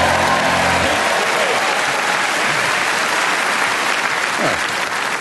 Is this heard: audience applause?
yes